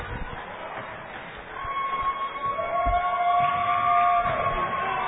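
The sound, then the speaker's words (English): At a basketball game against Hannibal, a crowd's steady roar swells after the first second and a half as Jake Hughes comes into the game, with sustained cheering voices and scattered clapping rising together and holding loud to the end. “And the crowd is excited about Jake Hughes coming in.”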